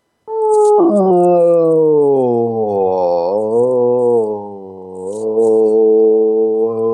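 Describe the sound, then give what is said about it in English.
A single human voice holds one loud, wordless tone for about seven seconds, gliding slowly up and down in pitch with a slight waver, almost like a howl, as a person with a hand on their chest searches for the resonant frequency of the chest cavity. “Put your hand on your chest and go up and down in frequency until it vibrates the most. I'll do it myself.”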